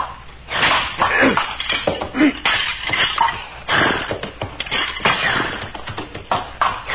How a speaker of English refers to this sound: The antler of the moose is brittle. I will break the antlers of the dead one with my tomahawk.